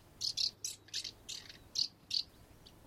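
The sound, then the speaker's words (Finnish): A house martin named Bengt, nesting in an old ventilation hatch, twitters in quick, bright bursts between working on its nest, about nine short high chirps tumbling out over a few seconds, clear against a quiet background with no voices. “Päivän mittaan se muorsi ahkerasti majaansa ja välillä intoutui mahtiponttiseen viserrykseen.”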